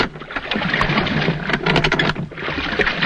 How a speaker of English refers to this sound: The lap of the water is created by using a splash box. This is a tank of water with a paddle in it, which is turned slowly to produce the sound of rowing.